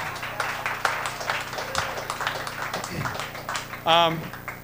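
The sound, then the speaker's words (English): Scattered applause from a crowd for the vegetarians, a steady patter of clapping of moderate loudness, with a brief high whoop or cheer rising near the end. “Let's all have a round of applause for the vegetarians.”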